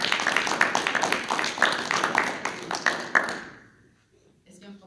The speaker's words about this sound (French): Enfin, je pense que ça vaut le même applaudissement pour les deux femmes.